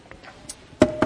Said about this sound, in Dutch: Ik stond op en ik ging naar de spreekkamer van de dokter toe. En ik klopte netjes bij hem aan.